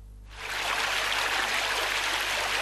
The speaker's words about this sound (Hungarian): A nagy hidegben is csobog a víz az árkokban. Újfehértón azért lehet ilyet látni, mert még mindig rengeteg a belvíz, ami nagy nyomással halad az alacsonyabban fekvő területek felé.